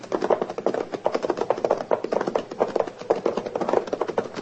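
A horse's hooves clop in a steady, brisk rhythm as it approaches pulling a wagon that rattles along behind, the busy clatter continuing evenly with no voices.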